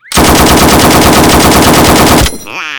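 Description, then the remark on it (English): A long, sustained burst of M60 machine gun fire shot at a duck: rapid evenly spaced loud shots for about two seconds, then abrupt stop with a fading ringing tail. “Here, try my M60.”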